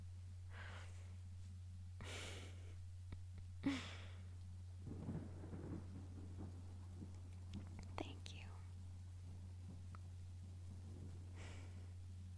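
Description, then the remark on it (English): Faint thunder rumbles low through a quiet stormy night, with soft hissing like rain and a steady low hum. Hushed, whispery voices drift in and out. “I just want the storm to be over.”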